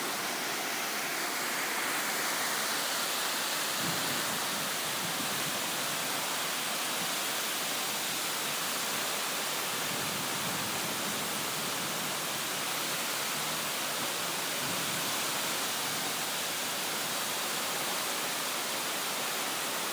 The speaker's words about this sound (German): Boah, es wird ja immer heftiger. Ach du Scheiße. Das regnet aus Eimern. Das nennt man Starkregen.